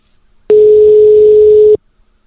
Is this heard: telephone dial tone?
yes